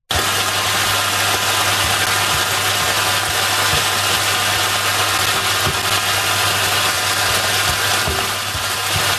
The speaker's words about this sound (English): So there's a running joke on TikTok that white noise rain sounds are really just the sound of chicken being fried. So KFC ran with it. We have the audio. So see if this sound relaxes you. This is the KFC frying chicken audio.